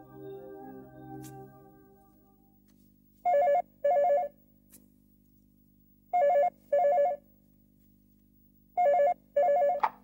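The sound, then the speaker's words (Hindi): A telephone rings in a classic double-burst pattern, three pairs of bright electronic trills spaced evenly apart, clear. A faint, fading tonal sound precedes the first ring. “आपके लिए फोन है।”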